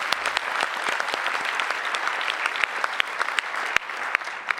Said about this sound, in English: Come on, everybody. I want everyone to give Mike and Joe back there a round of applause